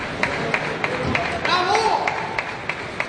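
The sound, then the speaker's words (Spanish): A single fan claps slowly and steadily, about ten sharp claps at an even pace, ironically applauding Valencia's players on their arrival in Valencia after a 3-3 draw against Osasuna in Pamplona, against a murmur of background voices and ambient noise. “Aplaudía irónicamente a los jugadores del Valencia.”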